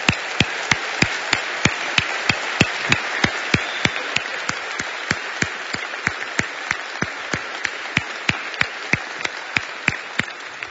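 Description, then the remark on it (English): A church audience applauds the mothers standing up, steadily for about ten seconds, a dense wash of clapping punctuated by sharp, evenly spaced claps that keep a brisk rhythm. No one speaks over it. “And for our whole congregation, we want to give you a big round of applause.”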